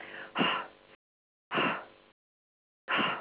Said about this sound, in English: Sometimes you have to start it with a little bit like panting, where you're doing this.